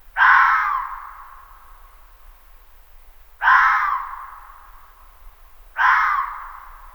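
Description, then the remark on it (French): Three harsh, high-pitched barks from a male red fox calling at nightfall in the mating season, which begins in early winter, ring out with pauses of a few seconds between them. Each call is loud and rasping, then fades into a short echoing tail, with no other sounds. “Il lance ses aboiements aigus dès la tombée du soir.”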